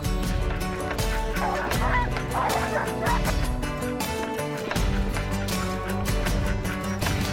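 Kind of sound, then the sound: animal, sled dogs (huskies) barking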